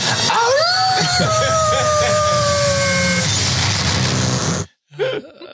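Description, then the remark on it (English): A person imitates a wolf howl: one long voiced cry that swoops up, then holds and slowly sinks for about three seconds over loud, steady background noise, followed by a brief vocal sound. “are you down with the wolf howl?”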